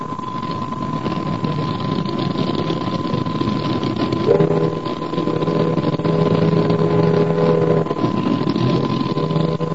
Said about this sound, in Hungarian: Szinte egyöntetű zajjá olvad az Alfámai utca lármája, és csak néha tarkítja ezt a lármát egy-egy hajókürtje vagy autó dudája.